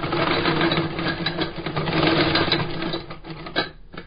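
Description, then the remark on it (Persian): A shoemaker's old sewing machine, inherited from his father, stitches shoe leather, running steadily, its needle clattering in a fast, even mechanical rhythm with a low motor hum, slowing and sputtering briefly near the end. “با این ماشین چرم کفش ها را می دوزد.”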